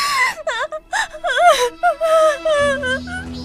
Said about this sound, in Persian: چی شد؟ چرا دارین گریه میکنین؟ حالتون خوبه؟